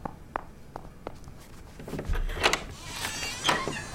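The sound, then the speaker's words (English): A few soft footsteps approach, then a door is opened to answer a visitor, with a short rattle of the latch and a creaky, rustling sweep of movement, moderately loud. “Now answer the door.”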